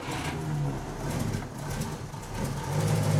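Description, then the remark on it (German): The engine of a vintage front-wheel-drive Rosengart LR 505 Aerodynamik, a one-of-a-kind car, idles steadily, a low, continuous rumble with a throbbing hum that swells slightly toward the end, with no one speaking. “Das ist der LR 505 Aerodynamik.”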